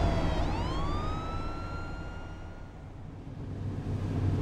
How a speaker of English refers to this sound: There's a fire engine behind us.